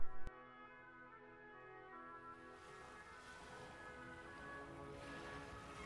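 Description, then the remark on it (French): A boat out on the sea during a short boat ride on a fine day: a sharp knock opens into a steady, ringing hum while the rushing wash of waves slowly swells louder around it. No voices. “Il me semble qu'une petite balade en bateau me ferait du bien.”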